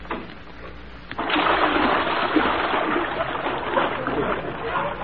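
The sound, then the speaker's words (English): Water splashes and bubbles steadily, starting abruptly after a quieter first second and then churning on without a break to the end. “are those bubbles you?”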